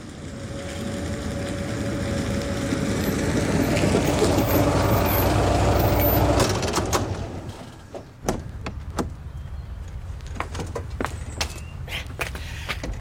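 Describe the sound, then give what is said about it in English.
A white Rolls-Royce car's engine rumbles steadily as it is brought round, rolls up and stops, the motor cutting out, followed by scattered mechanical clicks and a door-like thunk, with no one speaking. “The white Rolls Royce, sir. Hood down, if that's your choice.”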